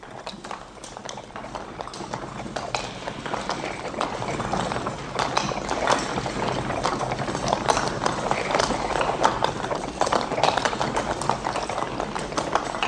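Hooves of harnessed horses clip-clop steadily after the wind has died down, against a continuous rumbling, noisy background, a dense run of hoof strikes, fairly loud throughout, with no voices.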